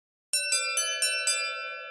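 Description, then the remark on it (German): The electronic doorbell of an art restorer's studio chimes with five quick, evenly spaced bright strikes, a steady tonal ring sustaining underneath and fading slightly at the end, with no voices present. “Die elektronische Glocke seines Ateliers hatte geläutet und er hörte bereits einen seiner Assistenten zur Tür eilen.”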